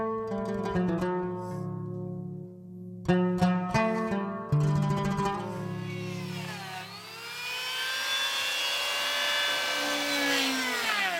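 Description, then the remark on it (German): A power sander whines with a buzzing, harmonic-rich motor tone, cutting out and restarting a few times, then running steadily while its pitch sags and climbs again, as boats hauled onto land in the town harbour of Kaş are sanded down for repainting. No one speaks. “Einige sind an Land, werden abgeschliffen und neu gestrichen.”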